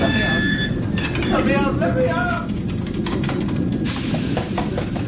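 A heavy black press ceiling grinds slowly and jerkily downward with great force, making a loud, continuous low rumble and hiss, broken by brief strained metallic squeals partway through.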